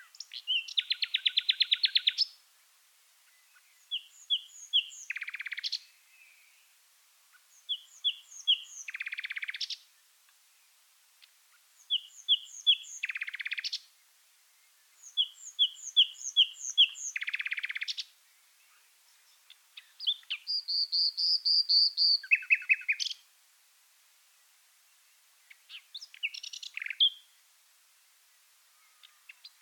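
A common nightingale sings alone in repeated phrases a few seconds long, mixing clear whistled notes with rapid buzzy trills, loud with short pauses between strophes.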